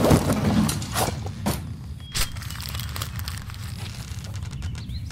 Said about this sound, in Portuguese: Eu vou abrir as gavetas aqui. Tem algumas anotações.